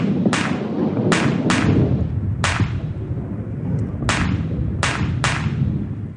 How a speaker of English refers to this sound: As you can see, we've opted for the ball rolling form of thunder, although there are other methods aside from the drum as well. And yes, cannonballs could be that size. The cannonballs roll across the tiring house floor, picking up additional sounds